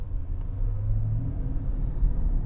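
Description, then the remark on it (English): A powerful car engine rumbles deep and steady while driving, a low throaty drone that swells slightly as it revs up to about 4,500 RPM, with no voices over it. “And, this car's got a lot of power, huh?”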